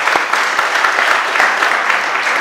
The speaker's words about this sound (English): Let's give them a little round of applause for what they've done.